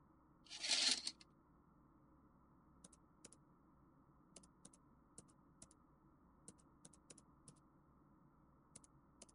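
Soft, sparse clicks of typing on a computer keyboard, keys pressed one at a time at an irregular pace, after a brief rustling thump at the start.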